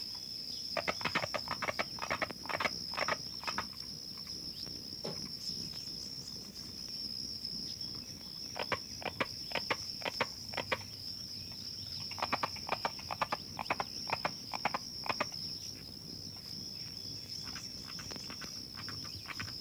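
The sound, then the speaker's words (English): A bog frog's call like hammering: sharp, wooden knocks repeated in quick bursts, with short pauses between series, over a steady high-pitched insect drone throughout. The species lives in acid sphagnum bogs of the Okefenokee Swamp and Osceola National Forest in extreme northern Florida. “As its name suggests, the call sounds like someone hammering.”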